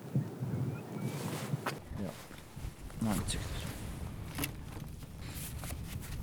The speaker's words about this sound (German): So, jetzt schauen wir da wieder, gibt es ein paar größere Gruppen wieder, die rausfliegen von Blässgänsen. 10, 20, 30, 40, 50, 60, 70, 80, 90.